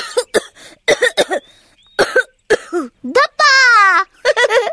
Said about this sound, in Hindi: रानो मीना और दीपू को ढूंढ रही थी और उधर रसोई घर से उठते धुएं की वजह से दीपू खांसने लगा।